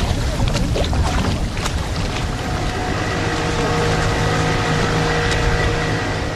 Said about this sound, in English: Halfway down the mountain, a crater holds a deep blue lagoon with two small islands at its center. Motorboats whiz by as tourists line up, waiting to take a ride on the lagoon's clear waters.